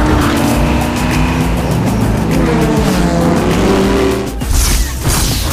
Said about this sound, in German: Dann fiel der Startschuss. Die Wagen bretterten mit Vollgas durch den Wüstensand und hinterließen eine mächtige Staubwolke.